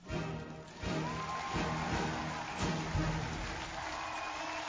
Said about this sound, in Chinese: 这是开场音乐